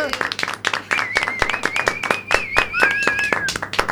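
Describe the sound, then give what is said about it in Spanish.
An audience applauds guests from the food makers Chicha Lovers with a dense, steady flurry of claps lasting several seconds, while a high, sustained whistle rises above the clapping partway through. “Eles son, por favor, forte aplauso para Chicha Lovers!”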